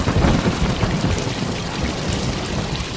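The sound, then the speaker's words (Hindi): Heavy rain pours down in a dense, steady roar, loud throughout, with a deep rumble underneath like thunder. No voices are heard. “अब इतनी बारिश में हम यहाँ नहीं रुक सकते, अब हम जा रहे, अब आप जानो और आपका ऊपर वाला जाने।”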